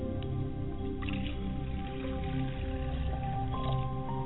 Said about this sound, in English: I like to pour libation today to my father's spirit, and I say, Ashe.